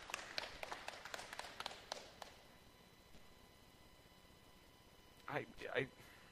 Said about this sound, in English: and if we could welcome her by clapping, that'd be awesome.